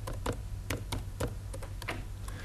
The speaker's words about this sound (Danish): Det er taste her, man kan måske lige se det, fremgangsmåde.